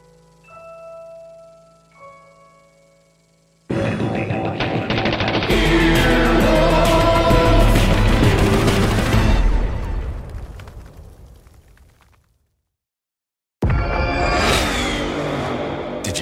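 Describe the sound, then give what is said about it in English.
A powerful car engine of an estimated 500 horsepower roars to life and revs hard, its pitch climbing loudly before fading away; after a brief silence the engine bursts into another loud rev. “What an estimated 500 horsepower sounds like.”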